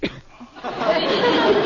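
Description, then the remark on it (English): A sneeze: a sharp little catch of breath, then a drawn-out, breathy, noisy burst that swells louder toward the end. No talking is heard. “Bless you.”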